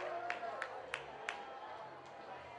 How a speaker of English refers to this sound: Now the fans are booing here in Rancho.